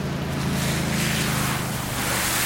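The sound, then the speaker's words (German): A steady, loud rush of water pours continuously for a couple of seconds, with a broad splashing hiss over a low rumbling undertone and no voices. “Und gießen Wasser über mich aus.”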